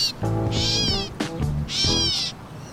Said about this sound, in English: That is why that bird is called a catbird. They have this cat-like meow sound, and now it's singing.